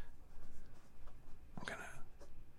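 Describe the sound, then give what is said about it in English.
Soft tapping and scratching of fingers on a phone screen as someone looks up the word harbinger on Google, quiet throughout, with one brief brighter burst of scraping partway through over a faint background hum. “He's typing on his phone.”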